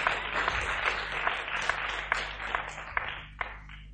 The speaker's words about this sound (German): Ja, gib mal einen Beifall. Nicht für mich, für den Herrn.